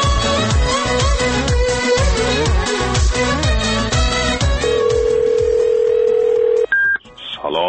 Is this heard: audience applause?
no